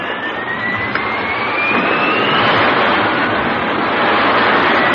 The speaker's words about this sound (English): A flight of Air Sea Rescue Seahawk jets blast off into the sky in response to the Mayday call.